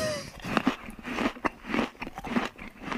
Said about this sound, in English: Oh, we're still using these chewing sound drops, which you know I don't approve of, but that's fine. Well, it's because it's the lunch. I get why. Tie into the seg. If the two of you find that sound drop appealing. No, I don't.